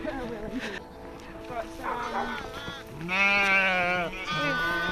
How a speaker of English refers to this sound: We've only 17 sheep. Right. But they've all either got lambs on them or they're about to have lambs. So, yeah, it's a beautiful time of year.